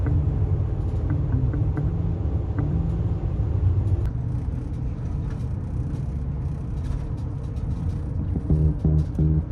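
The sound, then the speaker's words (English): Steady low rumble of a car driving through road traffic in Connecticut, passing the Connecticut Welcome Center, with engine whir and passing vehicle noise continuing throughout and no one speaking. “Passing the Connecticut Welcome Center, and I'm running into my first bit of traffic this entire trip.”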